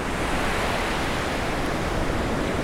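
ocean waves breaking

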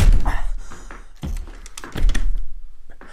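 door being slammed shut

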